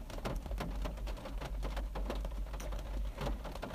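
Steady, irregular patter of raindrops on a rooftop: many soft, quick taps blending into a continuous wash, fairly quiet, with a low rumble beneath and no voices.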